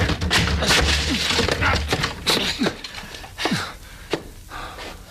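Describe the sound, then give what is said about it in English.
A door is forced open with repeated heavy shoulder blows: loud booming thuds mixed with sharp cracks and splintering wood, coming in an uneven burst and tapering into scattered creaks. “Come on, we'll break it down.”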